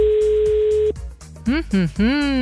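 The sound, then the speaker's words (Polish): A single steady telephone ringback tone, the fifth ring of an outgoing phone call, sounds for just under a second, loud and clear, then cuts off as a voice begins speaking over a faint background hum. “No to jeszcze piąty.”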